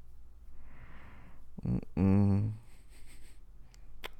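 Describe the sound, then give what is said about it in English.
A sick child with a fever coughs: a short, sharp hack, then a longer, louder, throaty cough. “Yeah, that cough says otherwise.”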